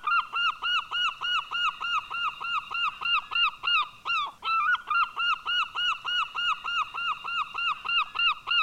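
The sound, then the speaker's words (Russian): A herring gull's loud, rapid laughing calls repeat in a steady rhythm of sharp, yelping notes, continuous for several seconds with no talking. “Сейчас я предлагаю послушать в записи голос серебристой чайки.”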